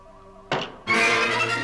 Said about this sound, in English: The guard's sword hits the table inches from McCoy's outstretched hand.